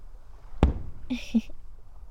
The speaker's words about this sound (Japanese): でもガラス越しよりもこっちの方が断然迫力あるんですよね、花火。